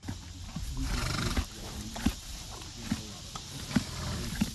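A horse whinnies and snorts at a farm, with short sharp bursts recurring about once a second over a steady outdoor background hum.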